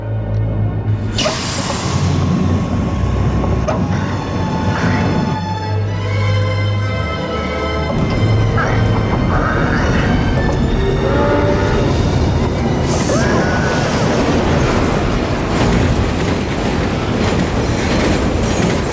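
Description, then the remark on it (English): A subway train roars past, a loud continuous rumble of rattling cars and clacking wheels with a screech of metal and a horn blast, and no voices. “Lex Luthor use his machinery to push the police detective in pursuit into an oncoming subway train”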